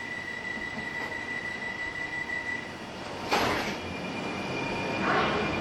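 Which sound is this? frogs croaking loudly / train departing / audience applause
train departing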